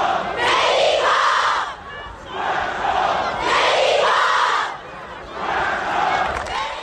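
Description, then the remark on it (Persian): A large crowd of football fans in the stadium stands at the Tractor versus Malavan match chants in unison, loud, rhythmic phrases repeated in long swells with short dips between them, three or four rounds of the same call. “یک بخش کوتاهی هست در بازی تراکتور و ملوان در همین رابطه، اینو با هم بشنویم.”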